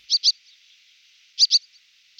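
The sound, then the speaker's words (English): A swallow gives loud, sharp double-note calls, two quick high chips repeated twice and then starting again, heard clearly with no other sounds. “Swallows also use a loud, sharp double note to attract each other's attention.”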